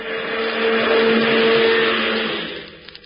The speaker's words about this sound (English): The chauffeur is driving one of Hubert's cars out. Gee, it's one of them big, long cars of Hubert's.